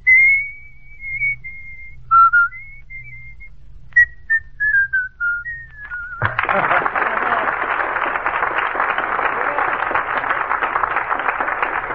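A person whistles a clear, bright tune of a recently popular song for about six seconds as the answer to a quiz show question, with short melodic phrases and pitch slides, then loud sustained applause takes over and fills the rest.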